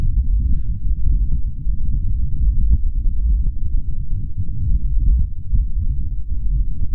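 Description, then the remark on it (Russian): Wind on the surface of Mars captured by NASA's InSight lander, the first audio recording of Martian wind sent to Earth: a steady, deep low-frequency rumble with soft throbbing pulses, continuous and fairly loud throughout, with no voices present. “Нет, это не УЗИ. Это ветер на Марсе.”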